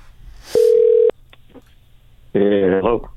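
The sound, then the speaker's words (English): A phone line gives one steady ringing tone lasting about half a second, then a click and a short pause before a man answers over the call. “When he answers, you're on the phone with him.”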